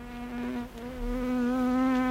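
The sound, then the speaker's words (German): A housefly buzzes steadily for a couple of seconds, a continuous droning hum that wavers slightly in pitch, with a brief dip partway through and no voices. “Da hören wir eine kleine lästige Fliege.”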